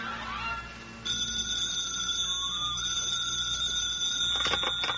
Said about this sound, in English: The phone rings.